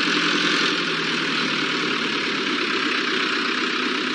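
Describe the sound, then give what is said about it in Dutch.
A milk truck's heavy engine rumbles steadily and loudly as it drives past, a dense, constant drone with no rise or fade, and no voices. “De melkwagen dus. Die komt hier nogal eens langsrijden.”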